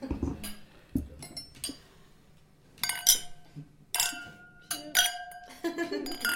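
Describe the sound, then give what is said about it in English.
Several bright glass clinks ring out in quick succession, clear, with sustained tinkling tones as glasses touch in a toast, faint voices murmuring in between. “Cheers.”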